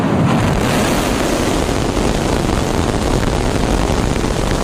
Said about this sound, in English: Last night, the latest iteration of the spacecraft blasted off from a new launch pad in South Texas, powered by 33 of the company's Raptor engines. 5, 4, 3, ignition.